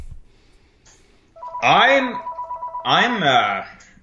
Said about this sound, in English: Oh, you got a phone call. That's okay.